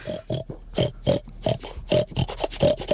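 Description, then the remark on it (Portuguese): A listener's recorded imitation of a pig: a rapid run of about ten loud, snorting grunts in an uneven rhythm, with no other talking. “Está aqui um ouvinte que grava e depois escreve porco.”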